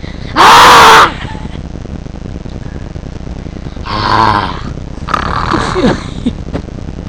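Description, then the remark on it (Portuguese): A child imitates a furious lion's roar: a harsh, noisy blast near the start, then two strained, growling vocal roars a few seconds later. “Cuidado, leão vai te pegar.”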